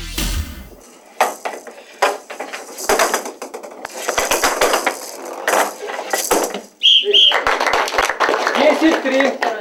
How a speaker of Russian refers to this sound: Ориентируются теннисисты исключительно на звон мяча. По правилам адаптивного настольного тенниса игроки, независимо от степени нарушения зрения, надевают светонепроницаемые очки.